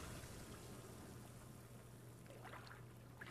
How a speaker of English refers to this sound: Imagine you're sitting on a beach. Take a big breath in. Now breathe out. Hear the waves.